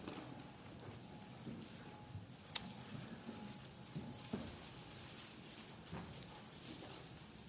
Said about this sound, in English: Still hear pages turning. Jeremiah 6.